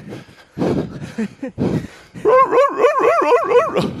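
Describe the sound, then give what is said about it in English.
A dog gives a few short, rough barks, then breaks into a rapid string of rising-and-falling whimpering whines, loud with no one talking. “Is that your mate the dog?”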